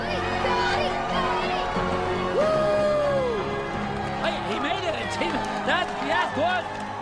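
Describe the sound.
A crowd cheers loudly and steadily for several seconds as a surfer rides a curling wave just ahead of the tube, many voices overlapping with rising whoops and excited shouts, the noise staying full and unbroken throughout.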